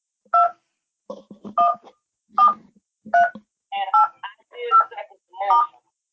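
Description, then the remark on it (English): Keypad tones from an office telephone being dialed to connect a caller, about eight short dual-pitched beeps pressed one after another at an uneven pace, clear, with faint voices murmuring under the later presses. “So I was just trying to connect you through my office phone.”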